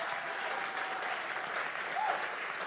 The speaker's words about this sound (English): Oh, is that how you clap for some?